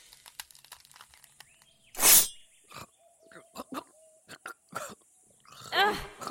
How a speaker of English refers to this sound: Rude! Coughing in my face like that?